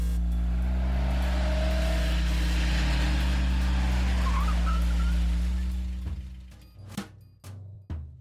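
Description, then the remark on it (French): The engine of a stolen Siesta Sport car roars loudly for several seconds, then fades quickly as the car pulls away, leaving a few sharp knocks in near silence. “vas-y, viens, viens, monte dans la voiture.”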